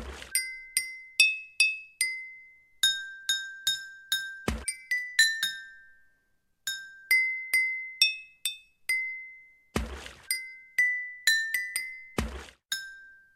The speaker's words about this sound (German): Wieder ein Wasserlied. Welches ist es jetzt? Gut aufpassen. Wasserorgel, die zweite.